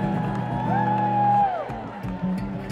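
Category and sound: crowd, audience cheering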